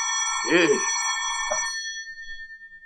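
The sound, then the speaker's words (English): A telephone rings with a steady, bright, buzzing tone that holds throughout, fading to a thinner note at the end. Brief bits of a voice cut in over it. “Phone's ringing.”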